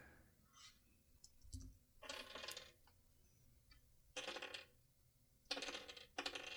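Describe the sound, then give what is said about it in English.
A handful of dice rattles and clatters across a hard surface in several bursts of sharp clicking, with short quiet gaps between the rolls. “How many dice for 8 hits? 10 dice.”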